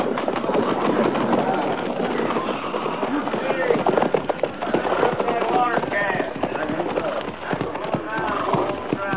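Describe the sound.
A train engine rumbles steadily along the tracks, a dense continuous roar with sharp clanks and rattles scattered throughout and muffled voices mixed into the noise.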